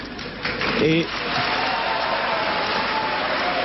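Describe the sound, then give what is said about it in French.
A crowd roars in protest at a film director receiving the Palme d'Or for a controversial film on 20 May 1987. It is a dense, steady wash of shouting, jeering and whistling, with a brief burst of louder yells and a whistle-like tone near the start, continuing unbroken throughout. “Je suis surtout content ce soir pour tous les cris et les sifflets que vous m'adressez.”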